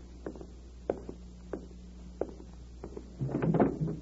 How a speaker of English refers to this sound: Let me answer it by opening the door.